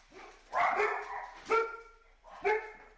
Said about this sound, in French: Ils sont enragés, ces chiens, qu'est-ce qu'ils ont là?